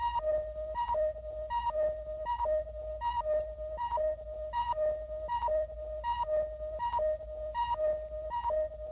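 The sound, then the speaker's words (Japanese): An energy timer's electronic warning signal beeps nonstop, each pulse a quick higher tone dropping to a longer lower one, repeating in a steady rapid rhythm over a low hum, with no voices. “いけない、エネジータイマーが。”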